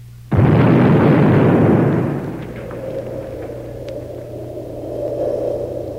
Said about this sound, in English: After the first nuclear explosion, it was impossible to stem the tide of destruction.